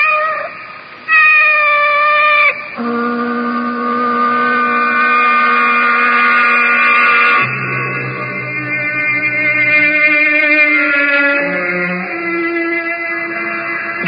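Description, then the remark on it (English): A cat with yellow eyes lets out long, drawn-out meows that blend into a continuous, wavering yowl, loud, shifting pitch several times, with no talking. “Her yellow eyes are fixed on me with that calculating look. Did she listen to my whole conversation? Did she approve or disapprove? What do I care? She's only a cat.”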